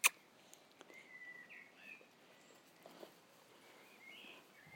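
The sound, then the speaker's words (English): Faint birdsong being recorded outdoors: a few soft whistled phrases drift in and out over quiet outdoor ambience, with a sharp click at the very start and light rustling or footsteps. “Listen to the birds.”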